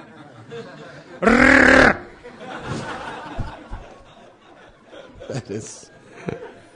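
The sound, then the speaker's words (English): A person lets out one loud, shrill, trumpeting scream in imitation of a Russian elephant screaming, lasting under a second, followed by quieter murmuring and soft laughter. “Так кричат русские слоны.”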